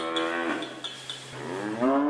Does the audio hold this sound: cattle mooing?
yes